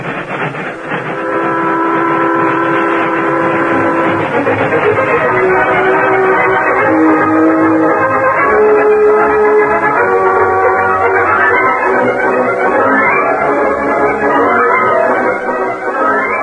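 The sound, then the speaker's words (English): An old steam locomotive runs steadily along the tracks, loud, its churning rumble joined early on by sustained whistle-like tones. No one speaks. “I'm going to speak to the engineer. That high wheeler can get more speed out of this old coffee pot.”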